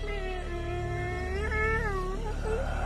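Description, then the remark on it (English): A kitten in the woods meows in one long, drawn-out cry that wavers and rises in pitch, over a steady low background rumble. “I heard the meow again.”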